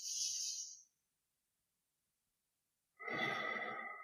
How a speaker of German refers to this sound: Okay, und jetzt lassen wir den Bauch mal ganz entspannt und konzentrieren uns jetzt nur mal auf die obere Atmung, also jetzt den Brustkorb heben, Nase atmen ein und ausatmen, Brustkorb senken lassen und versuche dabei, den Bauch nicht zu bewegen.